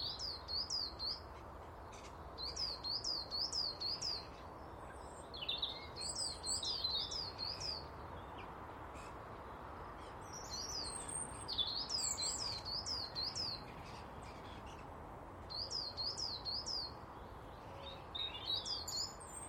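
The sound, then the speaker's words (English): A coal tit calls from high in a bare silver birch tree, repeating short, high-pitched bursts of quick two-note phrases, bright and clear over a steady soft background hiss, with brief pauses between the bursts. “A little cold tip high in the naked silver birch tree.”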